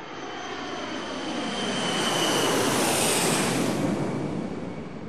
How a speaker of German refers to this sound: Mit dem Taxi fuhren sie zum Flughafen Schönefeld. Und stiegen in ein Flugzeug von Air Berlin. Dann startete das Flugzeug.